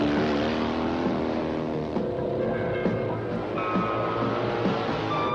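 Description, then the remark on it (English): Loud engines of big motorcycles rumble and rev together as a motorbike gang rides, their throaty pitch rising and falling steadily for several seconds, continuous with no voices. “And when you're on a bike, I mean a big bike, you've got all power, man.”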